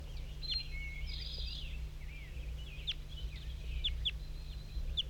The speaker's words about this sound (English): There's a wild bird in the top of the dead pine. Looks to be a male. One bird.